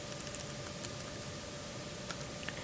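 A few soft, scattered computer keyboard clicks tap out irregularly over a steady background hiss, quiet overall with no voices, as someone types "this.ui map" into code for a test app.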